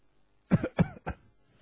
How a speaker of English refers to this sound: I did that just to meditate, by example. And if you're hearing the sound of the cough, it becomes the most important thing in the whole world. So be with it.